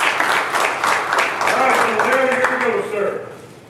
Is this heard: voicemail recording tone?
no